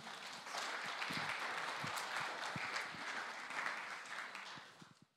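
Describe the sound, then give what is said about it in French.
A crowd applauds steadily for about five seconds, a dense, sustained wash of many hands clapping at even loudness before tapering off at the end. “on peut l'applaudir, merci beaucoup.”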